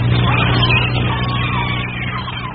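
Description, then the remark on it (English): A sailboat's engine, switched on in a harbour, runs with a loud, steady droning rumble, a low humming tone beneath broad mechanical noise, holding nearly constant for the whole stretch with no voices. “Switch on the engine.”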